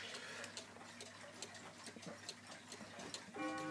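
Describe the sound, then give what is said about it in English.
A grandfather clock ticks in a steady, even rhythm, fairly quiet, over a faint background hum; a bright ringing tone begins at the very end as the clock starts striking. “Now that you're hearing is Sam's grandfather clock striking.”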